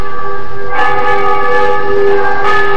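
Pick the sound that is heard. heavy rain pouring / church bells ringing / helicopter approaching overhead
church bells ringing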